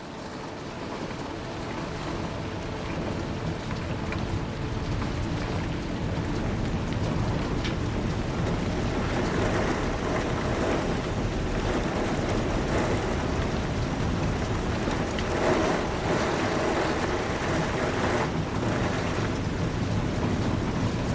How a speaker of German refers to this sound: Regentropfen peitschen gegen die Scheiben und der Wind treibt dunkle Wolken über den Himmel.